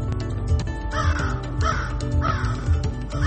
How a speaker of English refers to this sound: Sorry, I wanted to play with the sound effects for a minute. This was a crow. I like this one.